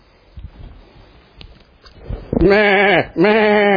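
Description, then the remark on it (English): A sheep bleats twice in quick succession, loud, each call a wavering, nasal cry, following a stretch of faint rustling and shuffling. “You don't think somebody knows that sheep crying out in your hand, or that goat”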